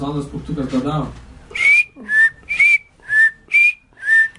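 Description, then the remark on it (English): A voice speaks briefly, then someone whistles six short, evenly spaced chirps, each a quick high rising note, imitating a little bird grown weak after 24 hours without food or water. “You see, his chirp is losing a little potency there.”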